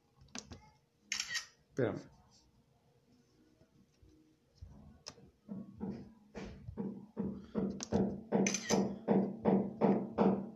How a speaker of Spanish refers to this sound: Tenemos a mi vecino martillando. Patrocinador, el vecino. Mira, se escucha en las ondas. Pinche vecino.